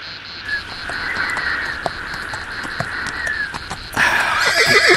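Steady clip-clop of hooves as a horse approaches across an arid plain over a droning background hum, then the horse lets out a loud, wavering neigh at the end.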